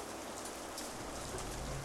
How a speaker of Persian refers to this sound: عجب بارونی گرفته.